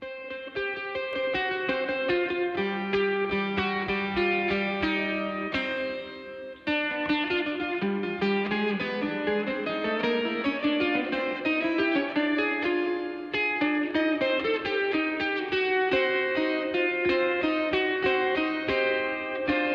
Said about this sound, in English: Let's play some of this stuff here. …. It's from the album …, and it's the title track.